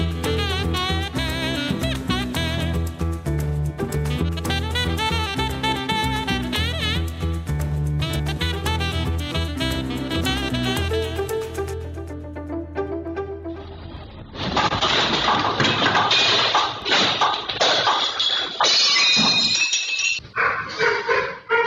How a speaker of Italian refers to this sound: Questi gli effetti di una scossa in una casa di Napoli. Piatti che cadono, cassetti che si aprono. A reagire in questo caso, abbaiando, è un cane.